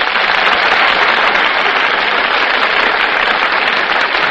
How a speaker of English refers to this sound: You just can't help applauding when Fred McMurray and Carol Lombard make their entrances on the Gulf Theater stage.